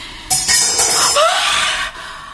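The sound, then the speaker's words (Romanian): A chieftain's metal sword, dropped by a slave, clatters to the ground with a sharp bright clang, followed by about a second and a half of ringing, shimmering metallic rattle that fades out. No voices. “A lăsat să-i cadă sabia.”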